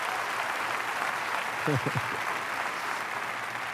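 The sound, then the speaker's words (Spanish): An audience claps steadily and loudly throughout, a dense hiss of many hands, giving a strong applause for the Lord, with a short voiced shout rising briefly above the applause midway. “Den un aplauso fuerte, Señor.”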